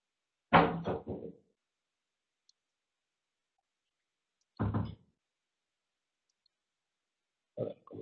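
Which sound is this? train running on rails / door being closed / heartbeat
door being closed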